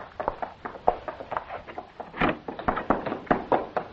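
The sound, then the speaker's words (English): Rapid, insistent knocking on a door, many sharp raps in uneven bursts that keep going without pause, fairly loud, with no voices. “Lass, go open the door. See who it is.”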